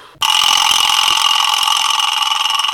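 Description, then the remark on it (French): A car engine bursts to life abruptly and then holds a loud, steady roar with a buzzing, mid-to-high-pitched drone for a few seconds as it pulls away. No voices are heard. “Hop, je monte. Clac, je ferme la porte. Voum, on démarre.”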